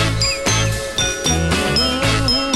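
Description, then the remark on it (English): A rock band plays a steady groove with thumping bass and drums while a bright, metallic triangle rings out in repeated shimmering strikes above the mix. “And you don't often find triangle in rock and roll, but you're about to hear it.”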